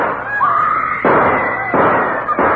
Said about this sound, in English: Gunshots have thrown the courtroom into turmoil. Just what has happened, we hope to know in just a minute.